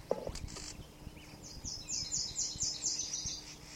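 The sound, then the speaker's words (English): A bird gives a scolding call, a rapid run of harsh, high, buzzy notes repeated about eight times, over a low background rumble with a few soft knocks. “Scolding a bird, possibly near the nest.”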